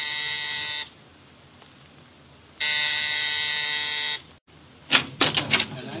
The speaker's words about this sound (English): Exactly 7, I rang Mrs. Collins' doorbell.